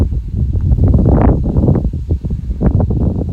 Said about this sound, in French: À l'ombre, avec un léger vent que peut-être vous allez entendre. Au bord de Nil. Sans aucun bruit, sauf le bruit de cette alizée dans les joncs, plus en dessous. Ou les papyrus, je ne sais pas, plus en dessus. À part ça, le silence.